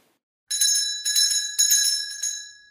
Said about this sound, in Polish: Tu świcka, tu świcka, tu kościółek, tu dzwonnicka. Idzie dziadunio do dzwonnicki i pociąga za snurecek. Dendele, dendele, dendele!